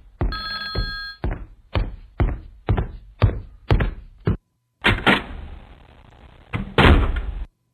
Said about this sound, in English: I had to open the door and close it. I'm walking back.